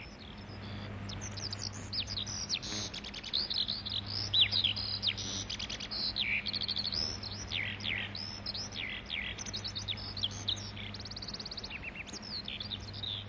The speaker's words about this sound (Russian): Выступает заслуженный артист полей и степей Жаворонок.